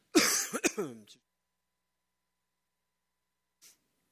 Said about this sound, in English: I'm trying to figure out how to cough with this thing on my ear.